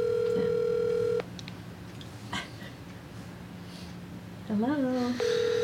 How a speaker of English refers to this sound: Well, let's call him. Let's see if he'll answer the phone. There we go. It's ringing. Does he know you're going to call this morning?